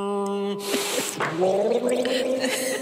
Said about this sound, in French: pardon, je m'étouffe un petit peu, mais je vais boire avec beaucoup de délicatesse comme je le fais, me racler la gorge, je suis obligé de le faire en direct, je suis désolé pour les auditeurs et téléspectateurs.